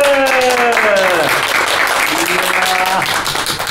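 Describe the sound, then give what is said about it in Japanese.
A crowd of people claps steadily and loudly for several seconds at the end of a New Year roundtable discussion in Nagaoka, Japan, with voices calling out over the dense applause before it starts to thin toward the end. “拍手。”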